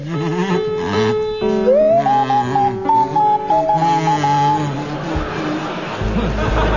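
Barry Cryer on a buzzy kazoo and Graham Garden on a pure, sliding swanee whistle play a jaunty rendition of the carol Deck the Halls with Boughs of Holly together, the whistle gliding between notes above the kazoo's reedy hum.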